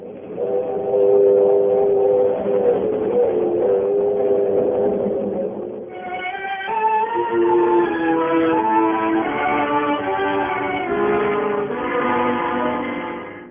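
A train rumbles along steadily, its rails clicking and wheels droning, while sustained, whistle-like tones ring over the noise and shift in pitch about halfway through, as the curtain rises on Act One of the drama Whistle Stop.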